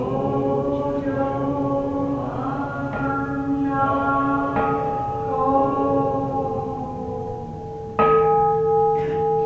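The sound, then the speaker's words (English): A Buddhist temple bell, a kansho, is struck several times, each deep, resonant tone humming on and overlapping the next. It is loud, with a sharper, stronger strike near the end. “the idea of automating the Dean Gongs or the Kansho is ridiculous”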